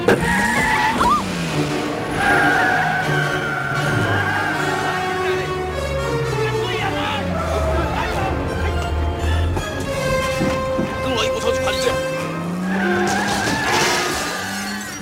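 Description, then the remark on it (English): Tires squeal in long, wavering high-pitched skids while a car driven by a kid, Short Round, revs and roars underneath during a chase, loud and continuous throughout like a frantic chase. “There's a kid driving the car!”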